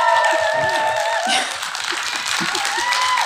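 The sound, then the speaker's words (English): A crowd of 80 to 90 people outdoors claps and cheers together, a dense burst of applause with whoops and high shouts rising over it, loud throughout, with scattered voices mixed in. “Okay, there's between 80 and 90 people out here who have been clapping and nodding and cheering and clicking the whole way through your speeches.”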